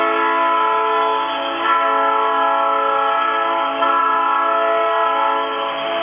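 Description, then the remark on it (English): A loud, sustained hockey goal horn at a Waterloo Black Hawks game in Waterloo blares steadily for about six seconds, a rich chord of stacked harmonic tones holding constant pitch with no voices over it. “And the goal horn, of course.”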